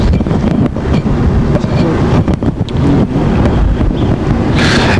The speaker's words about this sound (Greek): Ναι, είμαστε επί της Παναγίτης Αλβάρη και καταλήγουμε στις γραμμές στον σταθμό του τρένου.